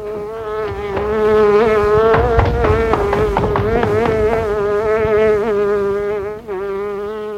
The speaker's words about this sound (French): Les oreilles sont toujours à la recherche du bruit de la mouche.